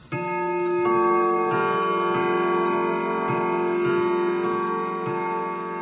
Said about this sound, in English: in Maya's bedroom, the clock was about to strike 2 a.m.